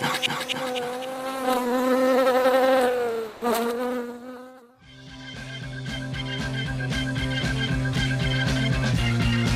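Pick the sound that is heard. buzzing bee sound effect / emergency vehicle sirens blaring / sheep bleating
buzzing bee sound effect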